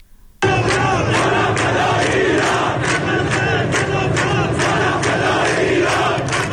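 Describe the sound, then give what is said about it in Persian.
A large crowd of protesters in Behbahan, Iran, chants slogans in unison, such as "we'll take our rights, we won't accept humiliation" and "petrol got pricier, the poor got poorer", a loud, dense roar of many voices with rhythmic shouted pulses that kicks in abruptly and holds steady throughout. “معترضان شعار میدادن که حقمونو میگیریم، ذلت نمیپذیریم، بنزین گرونتر شده، فقیر فقیرتر شده.”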